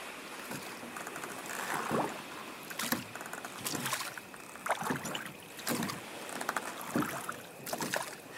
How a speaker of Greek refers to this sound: Είσαι καλός στο κουπί! Η βάρκα μας πάει σφαίρα!